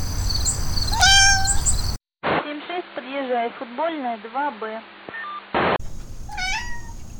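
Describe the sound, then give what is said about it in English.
A cat meows repeatedly, a run of short, rising-and-falling chirpy calls in quick succession, with a couple of higher squeaky cries before and after. “You gonna be Radio Kitty?”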